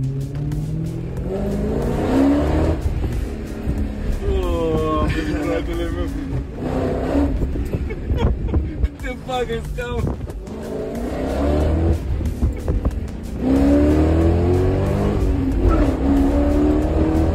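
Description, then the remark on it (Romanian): A car fitted with an LPG fuel system revs hard and climbs through the gears several times while driving, its pitch rising in repeated sweeps. The sound is loud, with steady road and tire noise underneath. “După ce am mers cu ea ieri, o să vă las niște cadre cu senzația pe care mi-a dat-o mașina asta.”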